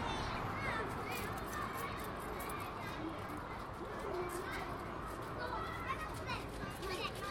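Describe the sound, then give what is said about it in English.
A crowd of children playing, with overlapping shouts, chatter and high-pitched calls forming a steady, busy wash of voices for the whole stretch, loud and continuous without pauses. “So, last group of kids I'll let you hear before I head back into the car and move off for the day.”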